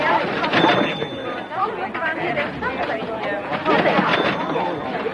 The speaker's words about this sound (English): Out on the sidewalk, Matacek shoulders his way through the snow-dusted crowd.